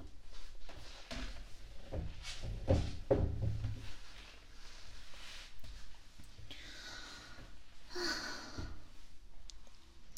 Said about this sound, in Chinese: 你现在跟我说话，可以坐着了是吗？把椅子拉过来。